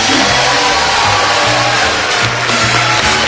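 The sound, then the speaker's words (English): A train loaded with prizes on its cars pulls into a train depot with a loud, steady mechanical rumble, hissing and clattering broadly while low engine tones shift up and down; no voices are heard. “prizes delivered to our train depot by the Price is Right train. And here she comes now, loaded with prizes.”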